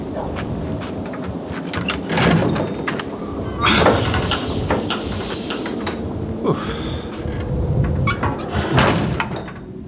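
household object, heavy door being opened

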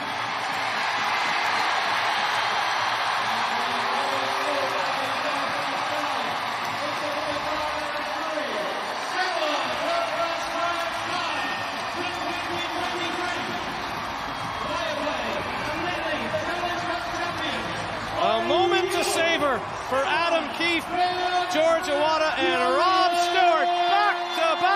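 crowd, arena crowd cheering

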